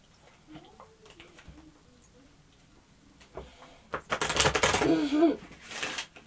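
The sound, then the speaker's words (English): A quick burst of riffling as an adult shuffles a deck of playing cards for a young child, a dense flutter of rapid clicks lasting about a second, with quiet voices and small handling noises around it. “Am I good at shuffling cards?”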